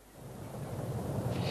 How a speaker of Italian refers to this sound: Senti, tuona.